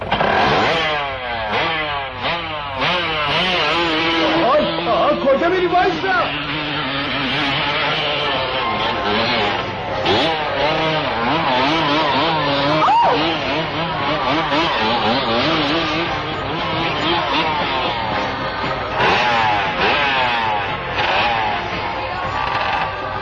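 A motorcycle engine revs hard, its pitch climbing and dropping over and over as it is ridden at speed into a house and up the stairs into the middle of party guests, with a faint crowd murmur beneath the steady, loud roar.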